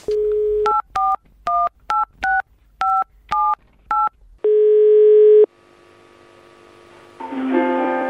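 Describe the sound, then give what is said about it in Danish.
A touch-tone phone is dialed to call a man: a quick series of about eight short dual-tone keypad beeps in an uneven rhythm, followed by a steady ringing tone and then line noise, with no one speaking. “jeg har faktisk tænkt mig, at vi lige skulle prøve at ringe til ham.”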